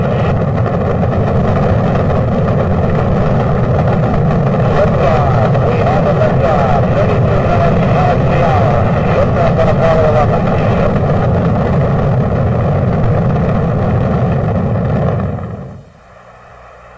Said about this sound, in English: 2-1-0, all engines running.